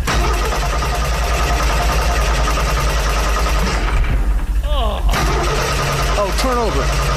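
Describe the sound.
A car engine cranks steadily for several seconds after a key is turned in the ignition, with a loud, rough, continuous grinding that never catches into a running idle. Voices can be heard over it toward the end.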